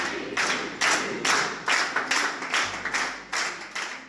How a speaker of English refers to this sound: In Israel, families united, cheering the hostages' return.